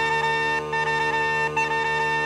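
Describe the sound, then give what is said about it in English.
Uilleann pipes played by a piper in The Fox Hunt play a bugle-like hunting call for the dogs, with short repeated bright notes over a steady, buzzing drone. Loud, with no voices. “A bugle for the dogs.”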